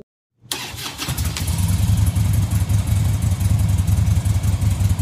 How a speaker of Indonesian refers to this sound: langsung menyalakan motor dan bergegas pulang.